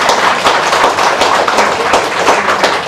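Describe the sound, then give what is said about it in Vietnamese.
A crowd applauds steadily for about three seconds in honour of the Phước An Buddhist centre, a dense, loud wash of many hands clapping at once with no voices over it. “Cho nên nhân dịp này hãy cho một tràng pháo tay nữa để tái dương trung tâm Phật Phước An.”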